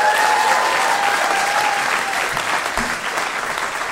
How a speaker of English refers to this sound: By round of applause, I guess I just should find out who has heard the normal podcast before. Clap your hands.